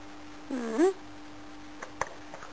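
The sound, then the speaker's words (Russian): A single short meow from a female cat, rising then falling in pitch, followed by a few faint clicks and taps over a steady low electrical hum. “Ну почему вы за моей кошки издеваетесь? Что она вам сделала такого плохого?”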